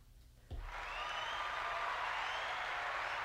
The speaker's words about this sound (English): The crowd goes wild.